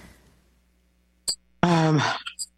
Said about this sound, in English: Excuse me. So I've got a cough now. And I think throughout my time in Gaza, I had a cough, and I think the coughs are quite common right now, and part of that is because of the number of respiratory irritants that are in the air